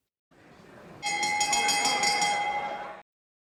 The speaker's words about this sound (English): A bell goes off, much like one in a boxing ring.